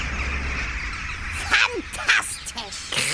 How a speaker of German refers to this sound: Die sind ganz nervös. Die wollen natürlich auch zuerst an ihrem Schlafplatz sein. Auf so einem bestimmten Zweig, an einer bestimmten Stelle. Ja, guck mal, der ganze Main ist jetzt zu mit Krähen. Wahnsinn!